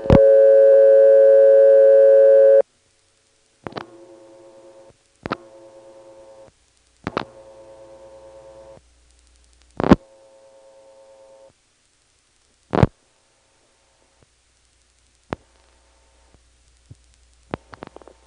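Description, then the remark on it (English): A loud, steady off-frequency phone company test tone hums for a couple of seconds, then gives way to sharp clicks and several shorter, quieter tone bursts, with no voices present. “Here's a phone company test tone, which is off frequency, by the way.”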